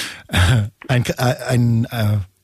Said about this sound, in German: Was ist das, ein Klopfen oder ein Husten? Oder? Das ist ein sogenannter Tick. Ist das. Das Tick ist so ein Keuchen. Oder Bronchien, ja. So ein Keuchen der Bronchien, okay, verstehe.